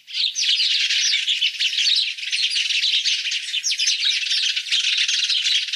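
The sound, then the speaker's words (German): Sparrows chirping busily and continuously, a dense overlapping chatter of short, bright tweets that never pauses, fairly loud, with no talking. “So, dann haben wir hier nochmal die Sperlinge im Vergleich.”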